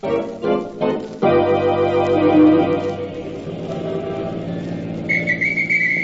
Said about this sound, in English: Hey, you cabbie! Didn't you hear me blow me whistle?